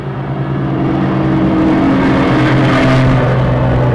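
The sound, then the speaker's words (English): A heavy truck rumbles past, its low engine drone steady and loud for several seconds, swelling briefly as it goes by. No one speaks. “Those trucks go by here,”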